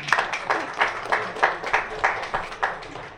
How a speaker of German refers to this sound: Man darf auch mal klatschen.